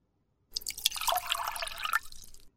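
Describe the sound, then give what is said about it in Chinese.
Water pours steadily into a cup for about two seconds, a splashy gurgle whose pitch rises slightly as the vessel fills, then stops abruptly. No one speaks. “哎，倒水都不用了，我不渴。”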